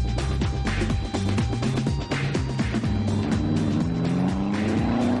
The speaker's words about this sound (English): Oversteer. JJ's aerofoil just hasn't given the Destroyer's car enough downforce at a very high speed in the turn, and the back spun out. Classic oversteer.